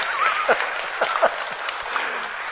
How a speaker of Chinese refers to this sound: 我明天会结束全部的旧约，应该有点掌声嘛，对不对？恭喜这些人。